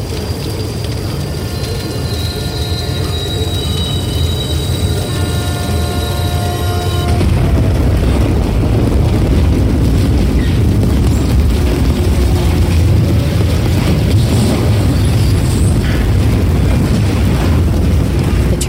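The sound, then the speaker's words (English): Loud, sustained squealing of metal rings out over a rumbling train striking at 50 miles per hour as its engine splits in two, then gives way to a continuous roaring crash of grinding, tearing debris that stays heavy to the end. “Into me at 50 miles per hour, and the engine up front cleaves clean in two, a great squealing of metal and broken things trumpeting its death.”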